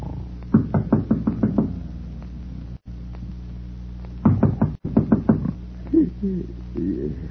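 A series of sharp knocks on a door, a quick rapid burst followed after a pause by a second flurry of knocking, over a steady low hum, with a brief voice-like murmur near the end.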